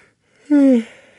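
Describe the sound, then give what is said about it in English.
A person yawns once, a short breathy vocal sound that slides downward in pitch and trails off, with no talking around it. “That was a real one. That was a real yawn, I promise.”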